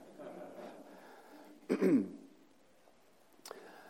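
A preacher gives a single throat-clear with a cough-like burst during a church sermon, short and fairly loud, followed by a brief sharp click; otherwise quiet room tone with faint murmur.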